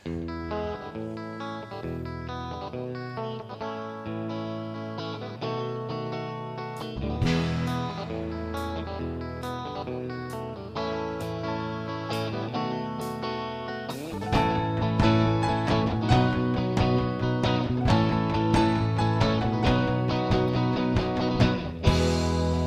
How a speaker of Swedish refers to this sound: Och du sysslar med musik också. Och vi har faktiskt en låt som du nu får äran att framföra för oss.